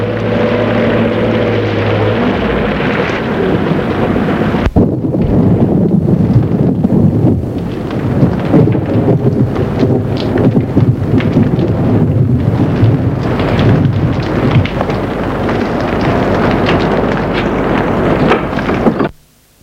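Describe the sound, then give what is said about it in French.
A stormy outdoor scene under a grey sky as a storm begins: a deep, steady rumble of thunder and gusting wind runs loud and unbroken, with a sharp crack early on, before the noise cuts off abruptly. “Il est gris, il commence à faire de l'orage.”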